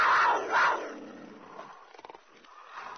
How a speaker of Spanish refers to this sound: Más adelante se encuentran con un tigre hambriento.